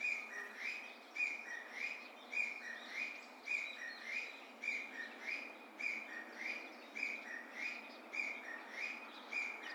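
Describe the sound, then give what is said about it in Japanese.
Wild birds on Tobishima island call over and over in a steady, pulsing rhythm, their sharp, clear chirps above a constant rushing hiss of outdoor noise, with no voices. “飛島というとこの季節はバードウォッチングとして有名なスポットです。”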